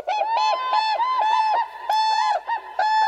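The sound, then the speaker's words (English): Whooping cranes, the tallest flying birds in North America at nearly 5 feet tall, call in a loud, continuous series of ringing, trumpeting notes, rapid and overlapping, each bright and rich in overtones, with no voices present. “Standing nearly 5 feet tall, the whooping crane is the tallest flying bird in North America.”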